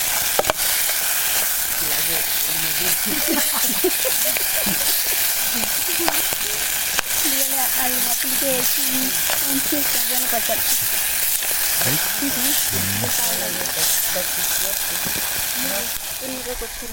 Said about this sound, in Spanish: En este momento vamos a hablar con la paila, porque es la que... Ahí está chirriando.